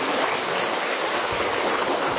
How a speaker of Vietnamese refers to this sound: Rồi, một tràng pháo tay thật to để chúc mừng tất cả những anh chị em ấy. To lên.